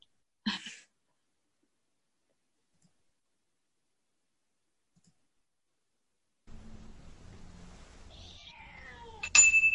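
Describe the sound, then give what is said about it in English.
After a brief sharp noise and a long quiet stretch during a moment of silent meditation, a cat meows a few times near the end, with a low background hum underneath and a sudden bright ping at the close. “If I can get my screen to work again this time, and my cat stops meowing.”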